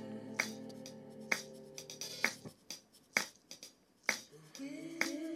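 A self-recorded percussion groove for a dance track: crisp, snappy claps land at a steady, evenly spaced beat, with lighter hi-hat and shaker ticks between them over a soft sustained tonal backing.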